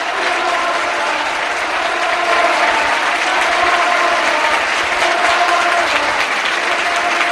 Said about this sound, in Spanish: Y ahí está, la ovación, Javi, que comentábamos para Sergio Ayala.